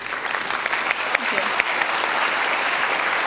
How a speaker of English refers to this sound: Yeah, I think that's it. Yeah, applause for it.